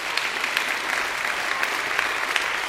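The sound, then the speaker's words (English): Steady audience applause for a club's first-place win in the first/second year design team division at the American Society for Engineer Education Zone 2 Conference in Puerto Rico, a dense patter of many hands clapping at once, sustained evenly and fairly loud throughout with no voices breaking through. “I appreciate your applause because it's very, very sweet, to me.”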